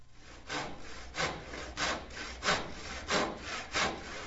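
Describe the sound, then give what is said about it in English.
A voice imitates a saw with about six breathy, rasping strokes in a steady back-and-forth rhythm, each swelling and fading, moderately loud with no talking. “Make your arm go back and forth while I make a sawing noise.”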